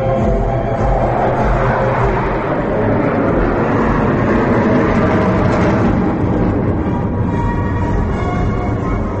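A loud, steady roar of MiG-29 jet fighters of the Russian aerobatic team Strizhi passing overhead at a military parade fills the whole stretch, a dense rumbling wash of engine noise with no voices.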